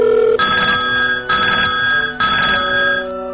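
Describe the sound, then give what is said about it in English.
A telephone bell rings loudly, its metallic trill repeating in steady bursts about once a second, with no voices. “Who is calling this late? Mike, can you get that?”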